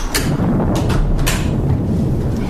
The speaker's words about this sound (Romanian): Ce-a spus? A trântit pur și simplu telefonul.